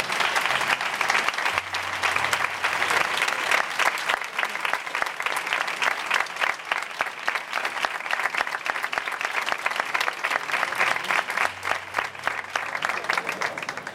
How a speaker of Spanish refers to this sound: Capitán, ¿se pondría de pie otra vez, por favor, para llevarse el aplauso de Sevilla? Enhorabuena.